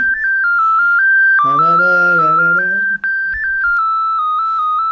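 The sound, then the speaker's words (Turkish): A loud, steady polyphonic phone ringtone in a bright, high-pitched tone warbles continuously like a school bell, with a man's voice speaking briefly underneath partway through. “Tam okul zili bak. Okul zili.”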